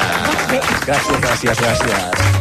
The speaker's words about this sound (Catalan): Un aplaudiment. Vamos.